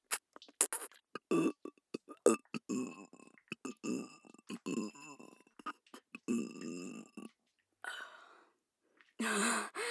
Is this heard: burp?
yes